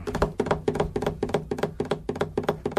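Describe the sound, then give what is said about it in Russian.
A rapid tapped drumbeat imitating a galloping horse, clusters of sharp strikes repeating about every third of a second, steady and moderately loud with no voices. “Знакомая дробь такая. Типа лошадь.”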